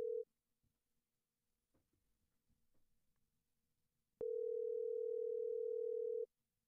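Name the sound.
phone call ringing tone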